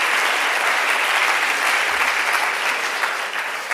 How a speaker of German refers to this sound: Ich freue mich auch hier im Bruno-Saal zu sein, seit vielen Jahren sind wir in diesem schönen Saal, dank an das Team vom Bruno-Saal, die uns hier immer sehr nett empfangen. Ja, einen Applaus ist das auf jeden Fall wert.